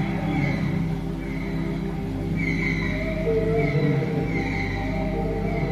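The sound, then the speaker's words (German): Dolphin vocalizations: drawn-out, wavering whistles rise and fall in repeated phrases over a steady low drone, continuing through the whole stretch with no one speaking. “Verbinde dich mit der Welt der Delfine und spüre, wie die Freude einfließt, die Kraft, die pure Lebenslust.”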